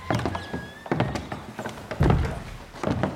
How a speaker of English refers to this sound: Going through another enormous oak door.